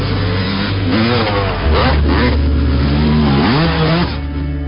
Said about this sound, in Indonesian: Sampai terdengar suara knalpot motor yang sangat kencang akan menyusul kami dari belakang.